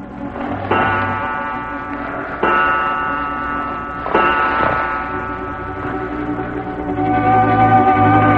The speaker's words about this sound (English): All was quiet save for the ticking of the clock that stood in the corner. The seconds passed, and it chimed the hour softly.